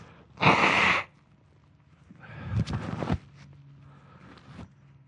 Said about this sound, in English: I guess for the hearers of this on audio, we'll see how long it takes them to get offended at me blowing my nose all the time. Don't get offended.